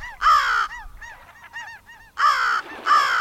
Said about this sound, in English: One time last fall, when the tide was low, a group of gulls and crows were on the beach, mooching about, looking for what had been washed up.